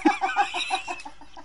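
A rooster clucks in a quick, steady series of about eight short, throaty notes, fairly loud at first, then gradually softer, with no talking.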